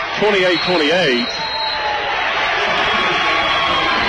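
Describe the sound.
A roaring arena crowd at a basketball game involving Bath County cheers loudly and steadily after a windmill dunk. It is a dense wash of noise throughout, with a voice briefly rising above it near the start.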